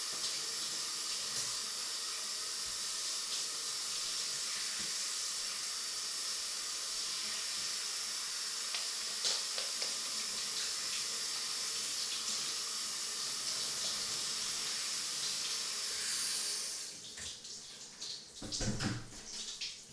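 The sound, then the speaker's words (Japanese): Steady running water pours and splashes continuously like a shower or tap as it rinses a person's back, a broad hissing stream that cuts off near the end, leaving a few brief drips and splashes. “それでは、お背中から流していきましょうね。”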